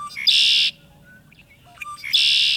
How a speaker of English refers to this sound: How about a solo from the red-winged blackbird?